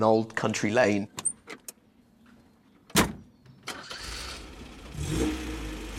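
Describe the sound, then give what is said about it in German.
A man speaks briefly, followed by a few clicks and a sharp thud, then a vintage MGB Roadster's engine cranks and settles into a rumbling idle, on Jersey. “Und genau das mache ich jetzt, in einem MGB Roadster aus meinem Geburtsjahr.”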